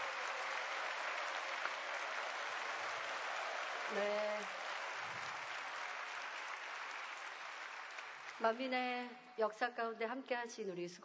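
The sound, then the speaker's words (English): A church audience claps steadily for their shepherd for about eight seconds, a dense, even patter of many hands, before the applause fades and a single voice begins speaking. “We also, let's applaud our shepherd”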